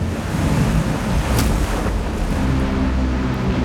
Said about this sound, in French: La grosse marée de tempête que l'Amérique n'ait jamais connue s'abat sur les digues qui entourent la Nouvelle-Orléans et les détruisent.